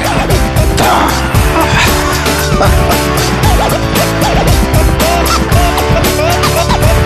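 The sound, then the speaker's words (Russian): A car engine revs loudly while tires squeal in wavering screeches, a dense, continuous burst of racing noise with no talking. “Дамы и господа, заводите свои моторы.”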